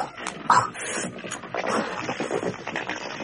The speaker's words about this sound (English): That noise you can hear is rubble being poured into the tomb by a long queue of workmen. The corridor is now full of rocks, and the final doors are sealed on it.